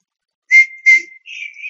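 A person whistles: two short, bright chirps followed by a longer wavering note, with no talking underneath.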